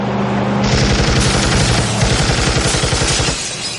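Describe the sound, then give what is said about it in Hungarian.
Rapid automatic gunfire from a car speeding through a harbour at night rattles in a dense, continuous, loud burst for several seconds, with a roaring engine-like rumble underneath, then cuts off abruptly near the end. “Milyen ösztön súgta meg Francescónak, hogy az éjszakai kikötőben vágtató autó spriccelni fog?”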